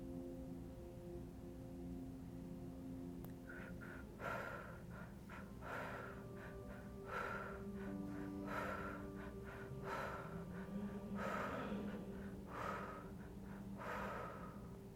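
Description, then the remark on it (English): Heavy, rhythmic breathing exercise repeats in quick, forceful in-and-out cycles, steady over a low sustained background drone, with no talking. “Keep breathing just a little bit longer.”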